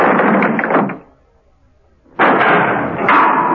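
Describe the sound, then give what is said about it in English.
A heavy cell door slams shut with a loud, sharp crash, preceded by a rough burst of clanking noise and a brief pause, with no voices. “Seconds later, there was a slam of the cell door.”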